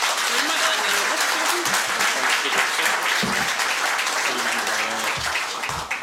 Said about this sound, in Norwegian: Gi deg en varm applaus.